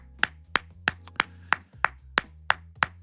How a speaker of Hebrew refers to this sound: כפיים.